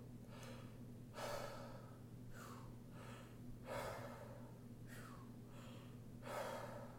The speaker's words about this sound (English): we're going to follow that up by maintaining all of that air that we just pulled in, and we're going to breathe into the chest and allow the chest to rise, and then we're just going to release and let all the air fall out. So all together, it goes.